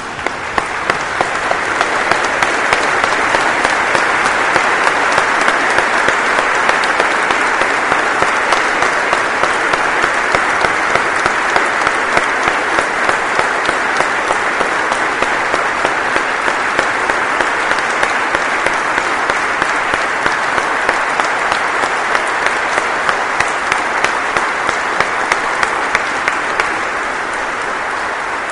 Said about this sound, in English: Stand with me and applaud this incredible group of human beings, please.